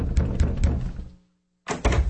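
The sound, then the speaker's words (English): Repeated heavy thuds, like someone pounding on a door: three quick blows, a brief silence, then two more, loud with no voices. “What's all the banging about?”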